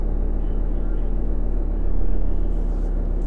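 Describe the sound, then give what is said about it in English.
A steady, droning engine rumble from Quattro racing cars on a track in a racing video game, heard even from halfway across the track, continuous, swelling slightly midway as if one draws nearer before easing off again. “I love how you can hear all of the cars, even when they're like halfway across the track.”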